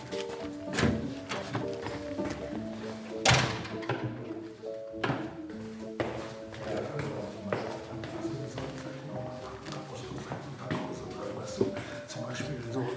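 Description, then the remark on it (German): A few sharp knocks on a door ring out at irregular intervals, with voices and faint rustling and shuffling continuing in the background. “Klopf, nicht erschrecken, ne?”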